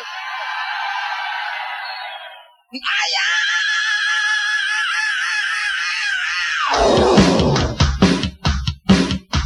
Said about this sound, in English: And you're gonna scream.